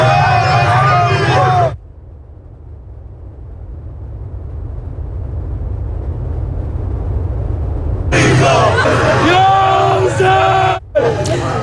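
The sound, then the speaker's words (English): A large crowd of mourners gathered in Tehran, Iran, after the death of supreme leader Ayatollah Ali Khamenei, chants loudly in unison, many voices rising and falling together in two bursts, with a low, swelling murmur of the crowd filling the gap between them. “large crowds of mourners have gathered in Tehran after confirmation of the death of Iran's supreme leader.”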